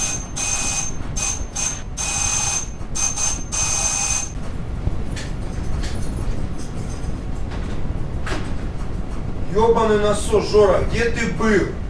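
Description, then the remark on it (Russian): A doorbell rings in a string of shrill, buzzing bursts, pressed repeatedly for about four seconds before falling silent. Background noise follows, and someone starts speaking near the end. “О, тихо, кто-то звонит в дверь.”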